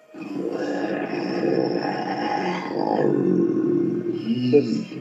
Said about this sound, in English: He says as he roars loudly at the Psycho.